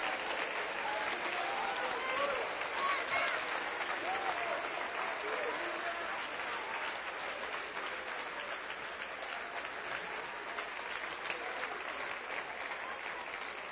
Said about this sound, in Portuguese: Sabe por que você aplaude? Porque você está diante do Senhor.